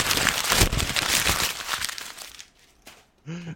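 Tissue paper crinkles and rustles steadily for about two seconds in dense crackling bursts, then fades to faint scattered rustles before a brief voice sound at the end.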